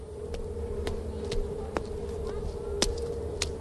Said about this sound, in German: Neben uns fährt gerade ein Schiff weg und deshalb ist es so laut.